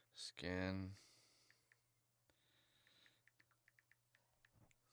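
After a short, loud vocal burst, soft keyboard typing follows: a run of light, irregular clicks and taps pattering along for a few seconds on their own.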